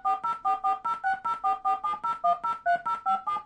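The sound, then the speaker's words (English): A rapid, evenly paced run of about sixteen short touch-tone beeps, the signs set of dual-digit touch tones, each a steady two-pitch dual tone, with the pitch pairs shifting slightly from beep to beep. No voices accompany them. “Fifth, the signs dual-digit touch tones.”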